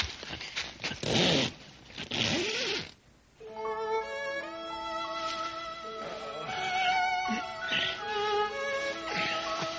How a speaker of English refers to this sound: I'll zip your tent up good. See?